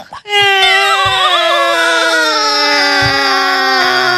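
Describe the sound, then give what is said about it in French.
A performer in an improv show imitates loud, sustained wailing, one long high-pitched cry with a wavering tone that slowly sags in pitch over about four seconds, with no words spoken. “Pourquoi tu pleures? On va pleurer.”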